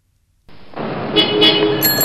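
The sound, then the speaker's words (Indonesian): Busy road traffic at an intersection with traffic lights rises in after a moment of silence, a steady wash of engine and tire noise with car horns tooting briefly a few times near the end. “Teman-teman, itu persimpangan jalan di depan kita.”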